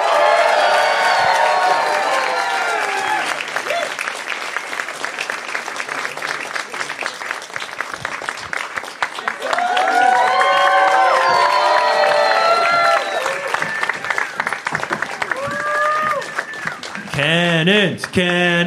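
A live audience at the Helpful Honda Soundspace at K-Rock in Los Angeles, California, welcoming a band, claps steadily and loudly throughout, with overlapping whoops and shouts of cheering rising over the dense applause and a few shrill, whistle-like cries near the end.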